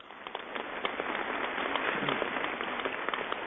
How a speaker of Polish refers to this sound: Jest z nami także parafia świętego Andrzeja Apostoła z Olkusza. Nie tylko dobry pasterz z Olkusza, ale także jeszcze święty Andrzej Apostoł z Olkusza. Także brawa dla nich.